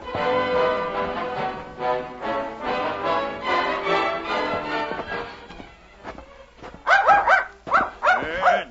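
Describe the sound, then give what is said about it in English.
A dog, King, a little dog who has found something, barks in a quick burst of three or four sharp, loud yaps near the end, after a stretch of sustained, tonal vocalizing with no clear speech. “Ah, that's King. He's found something.”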